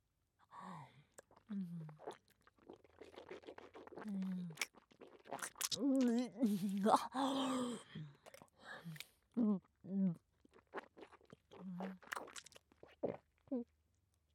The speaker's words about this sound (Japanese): それではもぐもぐするからな